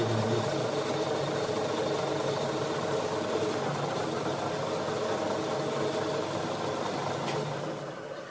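Workshop machines, drills and grinders, run in a continuous, steady mechanical drone with a layered hum and a faint high whine, loud throughout before easing slightly at the very end.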